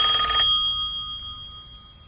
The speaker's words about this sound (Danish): Ja, det er faktisk en rigtig gammeldags amerikansk telefon her.